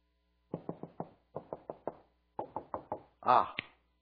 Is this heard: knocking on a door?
yes